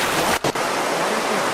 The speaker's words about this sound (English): Select an ambience. And we want that waterfall noise. Let's see. Water 3.